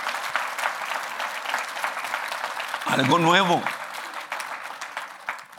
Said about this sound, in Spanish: Pueden darle un fuerte aplauso al Señor, hermano.